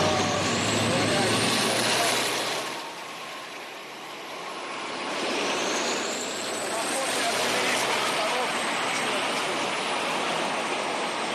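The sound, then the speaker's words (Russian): Self-propelled artillery guns firing during active combat, heard on a live TV report, produce a harsh, continuous roar that overloads the microphone into dense distorted noise, easing briefly in the middle before surging back just as loud. “Самоходные артиллерийские установки, поясню для наших телезрителей, звук практически исчез, вроде вернулся.”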